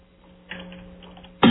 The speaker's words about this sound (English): I hear somebody hammering away on the keyboard.